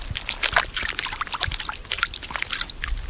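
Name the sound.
water lapping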